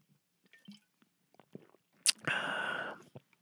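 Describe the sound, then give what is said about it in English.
A sip of water: soft wet mouth clicks, then a sharp smack followed by a loud, slurping draw lasting under a second, with no talking. “I'm going to take a sip of this fine, high-quality H2O.”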